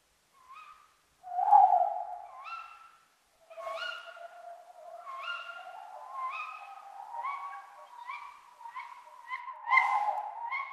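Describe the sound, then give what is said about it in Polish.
A female tawny owl calls repeatedly, a series of sharp, hoarse notes in quick succession over a steady low background tone, clear, with no one speaking. “ten pierwszy głos to był głos samca, a ten drugi to przepiękny też oczywiście głos samicy,”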